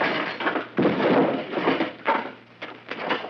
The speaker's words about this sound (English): Dr. Carter, swing the door open and drop behind it